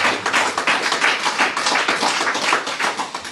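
An audience applauds for a few seconds, a dense, steady patter of many hands clapping at once with no voices over it.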